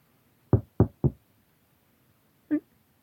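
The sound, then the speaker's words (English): Three quick, evenly spaced gentle knocks on a hospital room door, distinct, followed after a short pause by a single brief, tonal sound. “You start to panic, trying to fumble for any memory that might surface when you hear a short, gentle tap on the door.”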